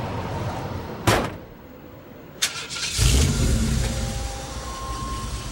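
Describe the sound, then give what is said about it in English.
Two sharp metallic thuds, like doors slamming, as a biker climbs into a monster truck, followed by its big engine roaring to life and revving loudly, rumbling steadily with no talking. “As Caitlin follows in her TV van, the biker climbs into a monster truck.”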